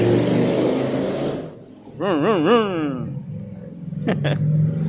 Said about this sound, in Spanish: Otra. Dos motocicletas seguidas, una tras otra. ¿Saben qué? Esas interrupciones a mí no me molestan, hermano.